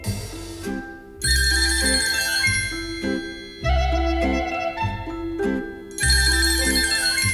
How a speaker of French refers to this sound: Quand ça sonne, j'ai un coup au cœur. Ça m'agace, je crois que c'est encore toi. 7 coups de téléphone pour une seule personne en une heure, ça fait beaucoup trop.